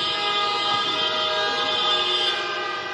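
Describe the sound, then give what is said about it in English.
A dense chorus of car horns blares nonstop on the main streets of Donetsk at noon, residents honking to show opposition to the separatists; many overlapping tones merge into one loud, sustained wall of honking, with no voices audible. “called on citizens to show their opposition to the separatists by honking their car horns at noon.”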